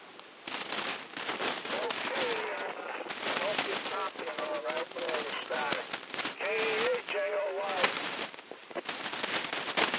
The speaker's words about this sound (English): I do copy you. The static is kind of heavy, but I can copy you all right.